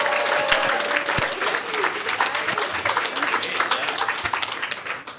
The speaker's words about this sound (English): Let's give one more round of applause for our four speakers.